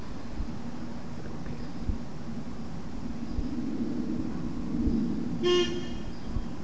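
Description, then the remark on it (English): A single short car horn toot sounds near the end, cutting above a steady low rumble of traffic or engine noise outdoors; no one speaks. “Car. Car.”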